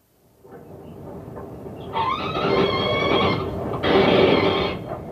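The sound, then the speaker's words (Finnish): A mink screams as it is killed by having its neck twisted after being stunned with gas. There are two shrill, harmonic bursts, the first wavering and the second louder and steadier, over a constant low rumbling background noise. “Tässä huusi minkki, joka tapettiin kaasulla tainuttamisen jälkeen vääntämällä niska poikki.”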